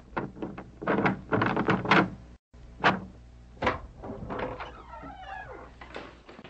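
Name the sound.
door being opened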